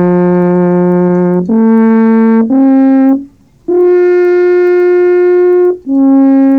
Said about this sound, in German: Kein Wunder, dass der Landrat selbst zum Alphorn griff.